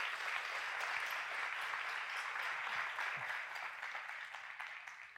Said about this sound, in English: Can we give them a round of applause for joining us today?